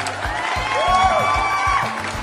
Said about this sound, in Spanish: Muy bien, son de aplausos, ¿verdad? Son de personas que están aplaudiendo.